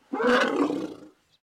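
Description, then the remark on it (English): A single loud, deep growling rumble from an elephant, lasting about a second, rough-textured, fading out abruptly with no voices present. “And deep growling or rumbling noises are by far the most common way that they vocalize.”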